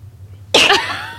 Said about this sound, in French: J'aime tellement ça éternuer la gang.